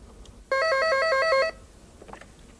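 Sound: telephone ringing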